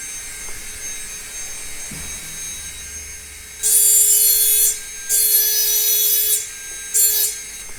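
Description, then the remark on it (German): Crystal glass being engraved on a grinding wheel by a glass engraver in a glassworks' grinding shop: three bursts of bright, hissing abrasive grinding, about a second each with short pauses, over a steady low machine hum. “Was gravieren Sie denn da gerade ein?”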